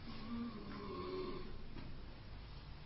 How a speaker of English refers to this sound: please snore quietly. You'll wake everyone else up. No one likes to sleep when there's people snoring.